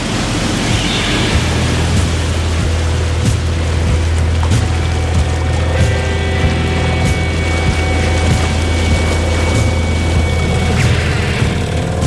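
A boat motoring slowly away from Île Saint-Joseph, its low engine drone constant beneath a broad rush of water and wind, with faint mechanical whines; no one speaks.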